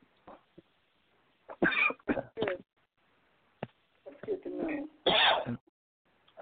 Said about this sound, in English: Excuse me. Yeah, bless you.